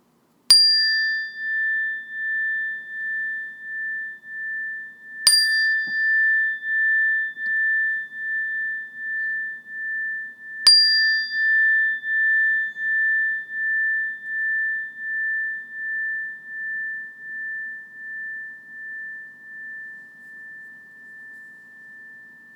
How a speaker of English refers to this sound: And when you hear the sound of the bell, again, just shift your awareness to your ears and your hearing sense and try to listen to the bell until you can't hear it any longer or until it's no longer there.